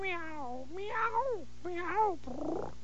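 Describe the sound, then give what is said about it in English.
A cat meows three times in quick succession, drawn-out, each call rising then falling, followed by a brief raspy, breathy noise at the end. “Meow. Shh, as quiet as you can. Meow.”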